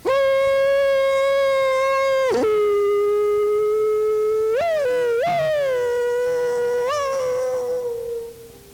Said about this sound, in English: And then off around in the distance somewhere, you know, in the next arena, is a great hollerer at work.